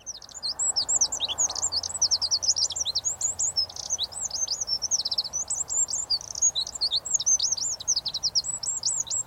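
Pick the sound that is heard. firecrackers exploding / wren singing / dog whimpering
wren singing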